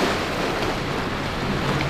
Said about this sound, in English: You hear that? It's the Pacific Ocean, but we're not talking Malibu or Santa Monica. Those are sounds from Katsuura in Japan.